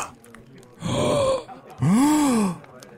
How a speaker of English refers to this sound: Why are we gasping?